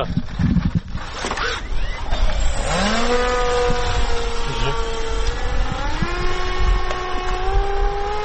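Drone propellers spin up after a few rustling clicks as soldiers launch a drone with a charged battery under a clear, sunny sky, settling into a loud, steady high-pitched buzz with a layered whine that steps up in pitch toward the end.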